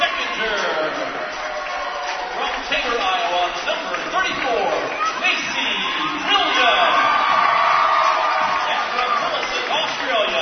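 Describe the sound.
A home crowd cheers inside Bearcat Arena at night as the starters are introduced before a Bearcat women's basketball game, a steady loud roar of many voices with scattered whoops and shouts that holds for the full ten seconds.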